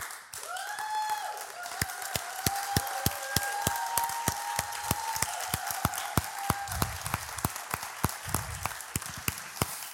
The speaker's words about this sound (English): And so if you're one of our elders or deacons, would you just stand up and we would all love to give you a big, big, big thank you and round of applause.